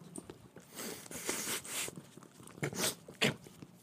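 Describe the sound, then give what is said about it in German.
Wet licking and snuffling from a dog, a series of irregular breathy, slurping bursts that come and go over a few seconds with no one talking. “Ne, doch, man hört es aber schnaufen und lecken.”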